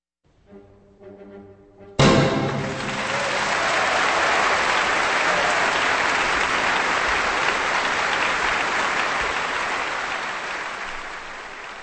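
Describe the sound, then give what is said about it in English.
A concert audience bursts into loud, sustained applause for the Vienna Philharmonic Orchestra and conductor Zubin Mehta at their 1995 New Year's Eve concert, right after the closing chord of Joseph Strauss's waltz My Life is Love and Laughter. It is a dense, steady wash of clapping that holds for about ten seconds and tapers slightly at the end. “That applause for the Vienna Philharmonic Orchestra and conductor Zubin Mehta from their 1995 New Year's Eve concert from composer Joseph Strauss, My Life is Love and Laughter, here on Kansas Public Radio.”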